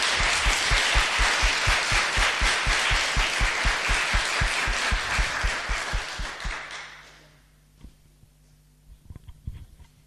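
A burst of crowd applause with many hands clapping densely for about seven seconds, then fading out into near quiet with a few faint scattered sounds.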